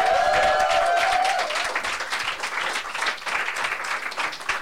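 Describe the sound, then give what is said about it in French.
An audience applauds the performer Boudilicious again, a dense wash of clapping that holds at full strength throughout, with a sustained high tone fading out in the first second or so. “On l'applaudit encore, s'il vous plaît.”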